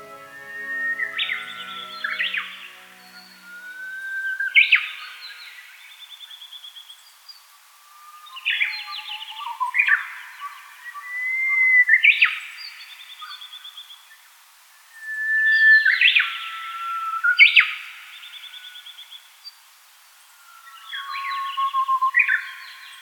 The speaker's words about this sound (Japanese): 鳥の中でも3番目に多く登場するのはウグイスです。